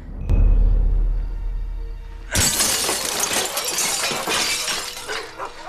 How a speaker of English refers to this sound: Now inside, he breaks the glass of a drugs cabinet with his elbow, then starts rifling through the bottles.